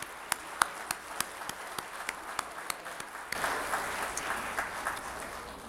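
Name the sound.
audience applause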